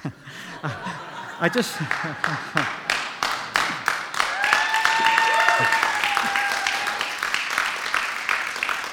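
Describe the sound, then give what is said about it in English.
A church audience breaks into steady applause for the preacher as he closes his sermon, sharp claps repeating quickly and evenly, with scattered chuckles and voices mixed in at the start and a few calls lingering under the clapping. “I just want to close before you clap me.”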